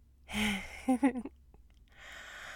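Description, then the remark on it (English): Heavy breathing after kissing: a loud breathy exhale, a few short voiced gasps, then another audible breath rising near the end. “Well, you are all flushed and you're breathing kind of hard, so I figure that you did.”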